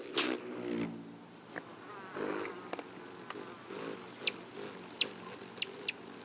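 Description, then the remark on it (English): A rufous hummingbird's wings buzz in a low, steady hum that swells and fades as it passes, broken by a few sharp, high chips and clicks, in spring in the Pacific Northwest, Western Canada or Alaska. “For many folks in the Pacific Northwest, Western Canada, and Alaska, the return of the rufous hummingbird in the spring is cause for celebration. The deep buzz of their arrival marks the start of summer.”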